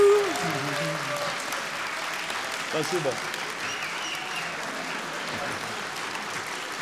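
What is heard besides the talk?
audience applause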